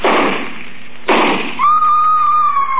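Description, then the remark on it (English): Two loud rifle shots crack out about a second apart, one hitting a woman, each trailing off in a rumbling decay, followed by a long, steady high whine that holds its pitch until the end. “I raised my rifle and...”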